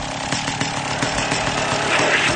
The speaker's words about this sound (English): Sounds like a vacuum.